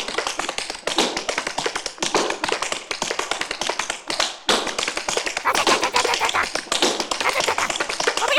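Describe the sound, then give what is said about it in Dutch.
The wooden peg leg of Lorre, a parrot, knocks out a fast, steady drum-like rhythm, the sharp knocks coming in dense, continuous runs with only brief pauses, loud and with no voices. “Want dan klink ik als een drumstel als ik met dat stokje stoot.”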